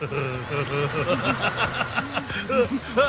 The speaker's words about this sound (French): J'aimerais vous faire entendre quelque chose qui nous fait beaucoup rire dans le bureau de l'Instant M. Ce sont des chevaux qui se bidonnent.